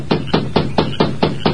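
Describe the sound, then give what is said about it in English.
Seven quick, evenly spaced knocks on the wooden door of a lighted bunkhouse in the darkness, sharp, in a steady rhythm with no voices. “Then, with Dobbs close by, he rapped on the door.”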